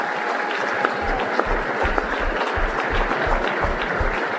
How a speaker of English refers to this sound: Round of applause